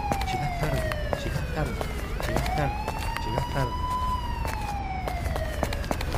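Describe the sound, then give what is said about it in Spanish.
A police siren wails steadily, its pitch sliding down, then rising and holding before easing off again, as police detain a person on a busy street with faint voices and sharp clatters. “Está viendo que la policía está deteniendo a una persona.”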